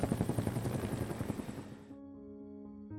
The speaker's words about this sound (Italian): facendo così sollevare da terra il macchinario, quello che oggi potremmo definire un elicottero.